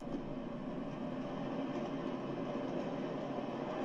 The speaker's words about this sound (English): But I do think, listen to the background. It sounds like you hear something. Not just the explosion, but something like almost like a jet or an airplane. From right here. It gets louder.